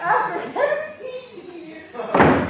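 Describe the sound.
Voices talk over the first two seconds, then a door is shut near the end with a single loud slam that briefly drowns everything else.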